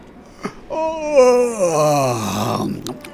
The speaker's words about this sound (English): I had no idea that Bagpuss squeaked. And he yawns too.